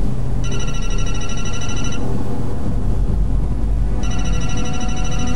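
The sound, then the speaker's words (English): A cell phone rings in two bright, electronic trilling bursts separated by a pause, fairly loud, over a steady low rumble of background noise. “Answer it. As Lewis eases out a cell phone, Nathan grabs his hand.”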